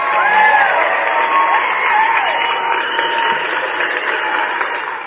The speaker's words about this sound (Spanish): Y ahorita en un momento más, nada más que tengamos efectos sonoros. Ahí están. Le mandamos unos aplausos, ¿cómo de que no?